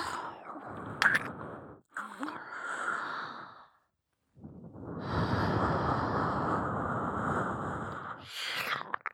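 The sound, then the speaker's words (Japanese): Airy, warm breaths blown into the listener's ear, a few short puffs followed by one long, steady exhale, with soft mouth sounds in between and a brief silent pause. “吐息も吹きかけた。”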